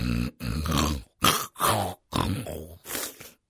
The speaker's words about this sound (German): Wer einem Schnarcher zugehört hat, hat sich vielleicht schon mal Sorgen gemacht, dass da gesundheitlich etwas nicht stimmt.